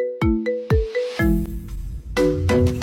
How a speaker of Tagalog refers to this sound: Kapag may tumatawag sa cellphone mo, yan na yung phone ringtone mo.